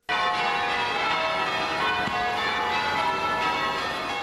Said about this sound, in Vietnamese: Các nhà thờ trên khắp thành phố Charlton cùng đổ chuông để bày tỏ tình đoàn kết đối với nhà thờ là tâm điểm của vụ tấn công làm 9 người thiệt mạng hôm thứ Tư tuần trước.